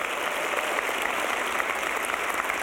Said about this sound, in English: I'm actually really glad you clapped, because otherwise this would have gotten real awkward real fast.